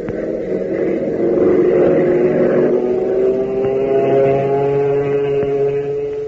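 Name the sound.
airplane engine roar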